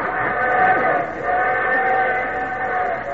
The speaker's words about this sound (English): What's that, Daddy? It's a train whistle.